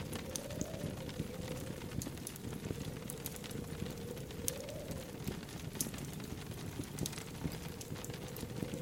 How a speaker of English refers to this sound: Rain strikes the window, but the sound blends with the cheerful crackle of the fire.